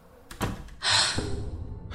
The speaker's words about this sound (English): Close the door. Quietly.